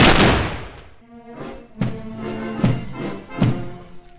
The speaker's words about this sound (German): Böllerschüsse, abgegeben durch die Sipplinger Bürgerwehr, das gehöre zur Tradition der Blumenteppichprozession seit Jahrzehnten mit dazu, heißt es bei der Gemeinde.